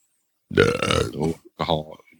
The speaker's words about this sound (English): Bless you. Not have to burp like that.